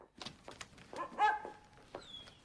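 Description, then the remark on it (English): A dog whines and yelps in a quick series of high, tonal cries and short barks, with a thin rising whimper near the end and no talking. “does your dog have to go to the bathroom?”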